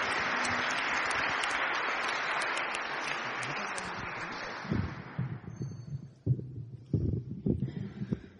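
Steady applause from an audience welcoming a speaker from the Evangelical Church of Westphalia to give a greeting fills the first few seconds as a dense wash of clapping, then tapers off and gives way to low thumps and handling bumps as it dies out.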